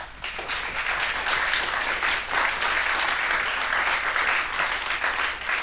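An audience applauds steadily for several seconds, a dense, even wash of many hands clapping at a constant, fairly loud level with no voices standing out.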